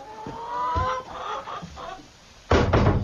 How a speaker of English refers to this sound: Now, these ones here are the chickens Mr. Sowerby raised for slaughter, for eating. Oh. Best chickens in county, these are.